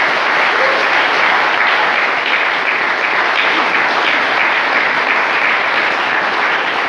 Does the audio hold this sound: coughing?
no